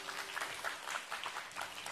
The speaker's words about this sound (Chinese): 阿们的拍手，把荣耀归给主。